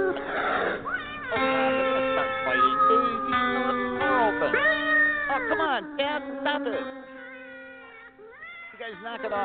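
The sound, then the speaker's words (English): Several cats meow and yowl loudly, their drawn-out, rising and falling cries overlapping almost continuously for the whole stretch. “Those damn cats, I'll tell you.”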